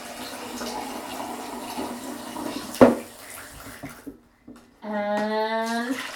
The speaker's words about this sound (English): Should we fill up the jug again?